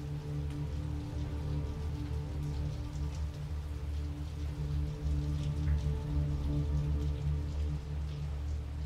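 Steady rain falls and patters on a hard surface, with scattered droplet taps over a low, continuous rumble. The sound is even throughout, with no voices.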